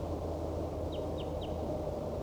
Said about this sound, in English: There appears to be another wild bird down the hollow, calling back. This is wild bird.